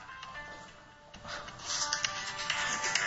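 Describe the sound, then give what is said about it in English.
A mobile phone ringtone plays from the speaker's own phone during a talk, a bright electronic melody of sustained tones that swells noticeably louder partway through, with no one speaking. “It looks like I'm reaching for my phone right now. I should have turned that on off.”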